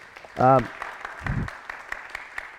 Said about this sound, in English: Yeah, can you clap it up?